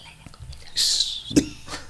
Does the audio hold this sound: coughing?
yes